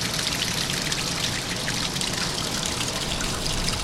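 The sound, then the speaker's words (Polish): Water rushes and trickles steadily near the ruins of a 17th-century watermill at Turtul in Suwałki Park, a continuous bright, splashing flow with no pauses or voices, filling the whole scene at an even level. “O tej porze roku słychać tu głównie szum wody płynącej w pobliżu ruin, pochodzącego z XVII wieku młyna wodnego.”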